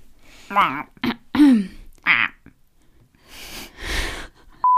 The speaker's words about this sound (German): Was ist denn heute los? Frosch im Hals.